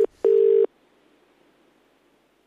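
A telephone line's ringing tone as someone calls a friend's phone: a brief steady burst, then a longer one, a pause of near silence, and another tone starting at the end. Clear and fairly loud, with no voices.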